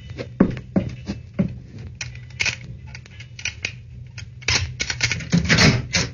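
A locked door's lock being picked with a hairpin: irregular small metallic clicks, taps and scrapes, sharp and uneven in rhythm, growing busier and louder toward the end, with no one speaking.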